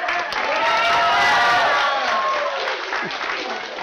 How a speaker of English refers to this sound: You're clapping, but he failed.